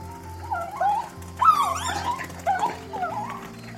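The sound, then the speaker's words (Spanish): A small female wolf cub, trembling in a dense forest, whimpers in a series of thin, high whining cries, about five short plaintive bursts rising and falling, over a low steady background hum. “También gimoteaba en un quejido que no pasó desapercibido para los atentos oídos de su madre.”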